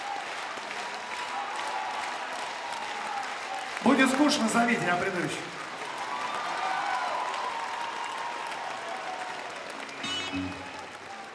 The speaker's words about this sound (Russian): Это аплодисменты поклонникам.